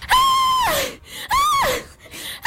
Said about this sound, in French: Un hurlement a glacé le sang. Un mélange de désespoir, de malheur, de douleur et d'horreur.